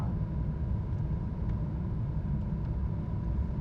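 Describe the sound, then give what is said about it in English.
A heavy truck's deep engine rumble holds steady throughout, a dense low drone with faint higher clicks and no voices. “That's a truck and...”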